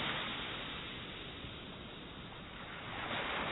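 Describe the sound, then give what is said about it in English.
Ocean waves wash steadily onto a shore, a broad, continuous rushing surf that swells slightly louder at the start and end, with no voices present. “In the waves.”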